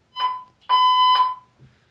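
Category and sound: signal or alarm, fire alarm going off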